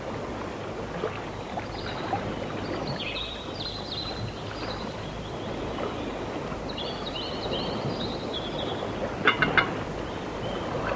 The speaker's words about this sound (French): Silence et bruit de l'eau et silence aussi de la lumière, enfin, parce que c'est un plan lumineux du point de vue visuel et sonore.